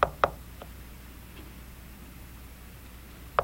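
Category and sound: impact, knocking on a door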